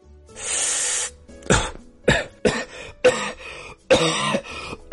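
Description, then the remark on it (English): A loud coughing fit: a long raspy breath followed by a rapid, irregular string of harsh coughs and throat-clearing bursts, with no talking. “And man, we all know a coughing Carl.”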